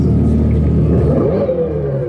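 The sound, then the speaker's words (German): A deep, loud engine-like roar, made by a sound generator in a Dodge electric car imitating an old petrol engine rather than by a real exhaust, rumbles steadily, rising briefly in pitch as if revving, continuous with no voices over it. “Dodge lässt es donnern. Doch dieses Brüllen erzeugt ein Soundgenerator, kein echtes Auspuffrohr.”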